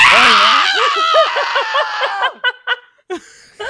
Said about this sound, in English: I couldn't fucking believe my ears when she's like, you know, Lisa Rinna was in my last video. I screamed.